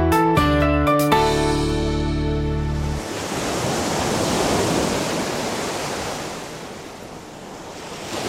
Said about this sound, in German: Das Meer. Ja, das Meer weckt bei vielen von Ihnen Sehnsucht. Die riesigen Ozeane, die etwa zwei Drittel von unserer Erdoberfläche bedecken.